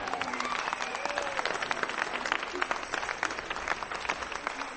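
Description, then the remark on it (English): An audience claps steadily during a participatory worship music concert. A dense wash of many hands carries sharp, rapid claps that stand out, while a few voices call out faintly underneath. “So be glad that you can move and clap a little bit.”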